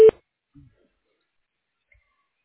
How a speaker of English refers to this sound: If you wish to leave a message, please do so after the beep.